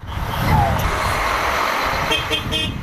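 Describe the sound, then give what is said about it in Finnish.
Large bus engines rumble and hum steadily in the low range as buses idle, ready to depart from Istanbul for the Syrian border. The dense vehicle drone has a faint toot over it, with crowd noise from dozens of people saying goodbye to each other. “Bussit hurisivat lähtövalmiina torstaina Istanbulissa, kun kymmenet ihmiset hyvästelivät toisensa.”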